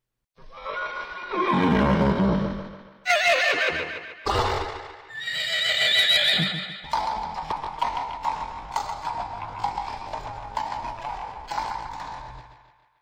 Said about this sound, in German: Und der Mann holte sein Pferd und beide saßen auf und so ritten sie aus der Stadt hinaus und hinter ihnen die Schar der Wölfe.